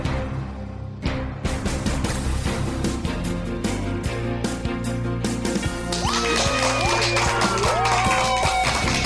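applause

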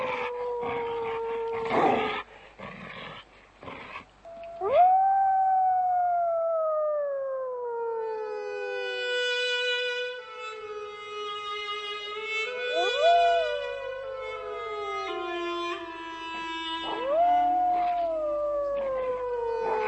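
dog howling

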